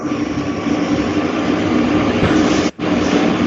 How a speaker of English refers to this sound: The truck. I hate the fucking thing.